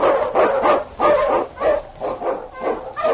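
Husky sled dogs of a team led by King, an Eskimo lead dog, bark and yelp excitedly in the Yukon in quick, overlapping bursts, a steady rhythm of loud barks with no voices over them.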